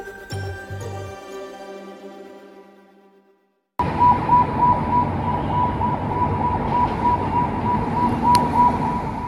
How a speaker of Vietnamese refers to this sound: Tiếng còi báo động ở thủ đô Lebanon vang lên sau các cuộc không kích của Israel. Nhưng điều này không xảy ra ở vùng ngoại ô phía nam Beirut, nơi Israel đã tấn công trong nhiều tuần. Nó diễn ra ngay trung tâm thành phố